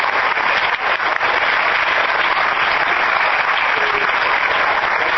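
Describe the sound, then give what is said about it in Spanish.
An audience applauds for the director, clapping steadily and loudly, a dense wash of many hands beating together with no pauses, sustained for the whole few seconds without any voices standing out. “Y para terminar, quiero que también le podamos brindar un aplauso a Silvia Listur, la directora del...”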